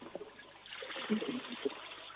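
A rushing swirl of water starts partway through and keeps gurgling, like a toilet flushing nearby, fairly quiet overall with a few faint voiced sounds near the start.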